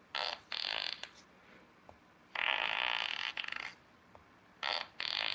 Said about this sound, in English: And since I'm classy, I'm going to use fart noises. Also, my children love this, and I helped them to build an app like this recently with a picture of my really good friend. And when you press the picture of my really good friend, it plays.